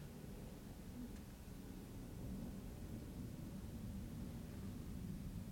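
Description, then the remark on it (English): A low, continuous rumble of thunder from a storm with lightning rolls on steadily for several seconds, deep and heavy, with a faint hiss of rain or wind above it and no voices. “What a perfect time. Thunder, lightning.”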